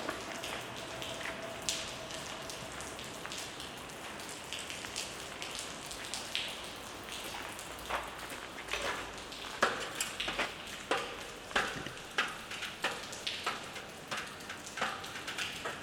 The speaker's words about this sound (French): Attention, il pleut.